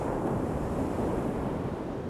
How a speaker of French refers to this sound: Il regarde la mer et il cherche dans sa tête quelque chose de plus à dire. Il écoute la vague qui s'écrase sur le sable.